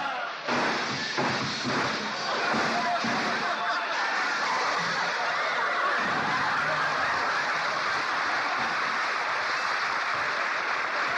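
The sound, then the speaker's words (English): A loud, sustained crash of breaking glass and tumbling debris, a dense clattering roar that keeps going for several seconds, as a car with failing brakes smashes through a store window. “look at that mess you've made out of that store window. You've broken everything”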